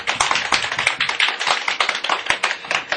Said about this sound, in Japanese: じゃあ皆さん母に拍手をしましょう。